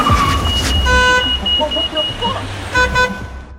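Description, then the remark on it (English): A car on a city street lurches to a sudden stop in front of a man stepping into the street, its low engine rumble joined by two sharp, steady horn blasts, the first longer and the second shorter, with busy street noise around it. “A car lurches to a halt in front of him.”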